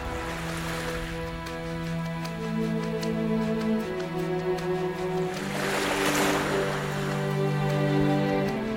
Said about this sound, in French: C'est le bruit monotone incessant de vagues sur la plage, à deux pas de notre hutte, et qui, joint à celui non moins continuel du vent parmi les arbres, nous rappelle sans relâche notre cruelle destinée.